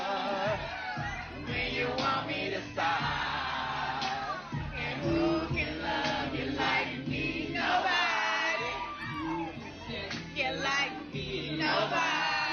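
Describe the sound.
A large crowd sings together in unison, a loud, sustained wall of voices with rising and falling melodic phrases filling the space, steady and energetic throughout.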